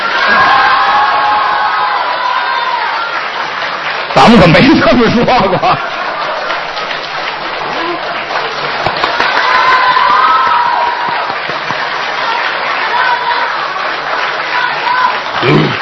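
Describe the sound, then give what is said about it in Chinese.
An evening stage-show audience applauds and cheers steadily throughout, a dense, continuous wash of clapping with scattered whoops and laughter, while a man speaks briefly over the noise partway through. “请鼓掌。”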